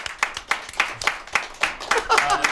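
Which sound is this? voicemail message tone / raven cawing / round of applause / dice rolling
round of applause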